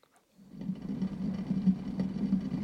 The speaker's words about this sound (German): Das ist ein Wasserkocher und Küche ist richtig.